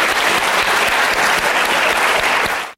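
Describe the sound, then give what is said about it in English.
A crowd claps steadily for the mentors being thanked, a dense and loud wash of many hands with no pauses, holding an even level before cutting off abruptly after about three seconds. “In fact, let's give them a round of applause to all of these people.”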